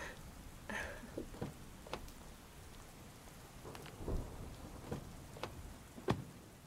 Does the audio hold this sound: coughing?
no